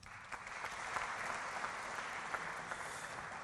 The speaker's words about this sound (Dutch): Een hartelijk applaus voor Harlo Bramla.